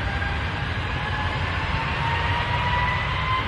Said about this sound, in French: Là, normalement, c'est le moment où vous dites, ça y est, le décollage est terminé. On va pouvoir respirer un petit peu, être plus relax.